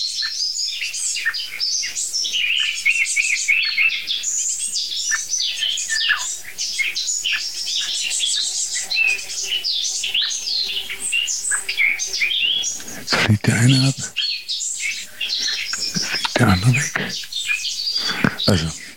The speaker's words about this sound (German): Ja, jetzt ist die Meise auch genervt.